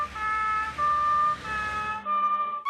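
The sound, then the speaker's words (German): The siren of a red fire engine wails in steady, high two-tone blasts over a low rumble of traffic, the tones shifting slightly as the vehicle goes by. “Ich hab schon wieder eine gehört. Hopp, da! Da fährt sie.”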